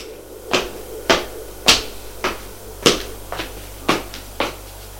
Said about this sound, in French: Elle se prépare pour le dîner, frappe à la porte et dit « Entrez !» Il entre.